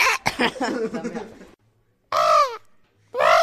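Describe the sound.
A child's voice, playing the role of the pterodactyl, imitates a pterodactyl's cry: a wavering, pulsing squawk, a short silence, then two loud, harsh, falling caws.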